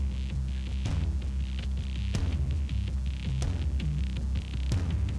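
Instrumental rock music plays steadily with no voices, driven by a deep sustained bass and sharp drum crashes landing every second or so over a dense, distorted wash of guitar.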